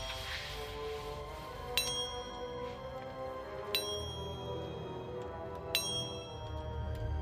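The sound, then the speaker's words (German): Small bells chime three times at slow, even intervals about two seconds apart during a Ouija board séance, each bright strike ringing on and fading over a low, steady background hum, with no talking. “Die Glöckchen werden all Ihre Gedanken vertreiben und Platz schaffen, um die Präsenz von Aaron Johnson aufzunehmen, die noch immer hier in den Räumlichkeiten seines Elternhauses zu spüren ist.”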